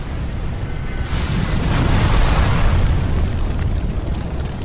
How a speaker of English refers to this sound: A series of explosions rock the DuPont plant in nearby Carney's Point. It's an explosives factory, and when catastrophe strikes, it's seismic. Three storage areas filled with 75,000 pounds of explosives are accidentally ignited, creating an inferno.